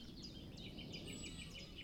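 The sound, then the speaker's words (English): Birds chirp and whistle continuously, several quick overlapping calls with a thin sustained whistle, over a soft low rumble of quiet outdoor ambience. No one speaks. “It's beautifully quiet, apart from the bird song.”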